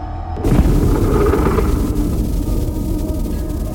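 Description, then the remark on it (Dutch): A massive concentrated explosion erupts suddenly over the town of Hawija just after midnight in early June, on a warm, pitch-dark night, after a brief quiet, then rumbles on with follow-up blasts as a deep, sustained roar with rolling low-end blasts and debris-like crackle, loud and unbroken for several seconds. “Een geconcentreerde explosie.”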